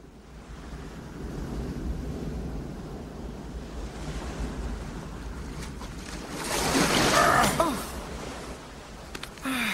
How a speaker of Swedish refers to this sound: Ja, men vi kan inte simma i den här stormen.